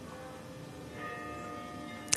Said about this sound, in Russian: я хотел бы обратить твое внимание, то, что сейчас мы слышим колокольный перезвон